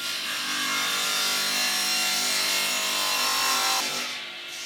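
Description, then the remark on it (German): A power saw whines steadily as it cuts through a wooden board in a workshop, loud, with a harsh, grinding edge that holds for several seconds before easing off at the end. “Dann stelle ich das ein und mache die Säge an und schneide das.”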